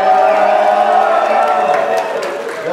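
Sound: audience cheering and clapping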